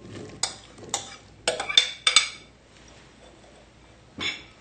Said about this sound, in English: And now we're gonna pour it in this bowl and mix it in with the pineapple. So all the pineapple goes in here to mix it.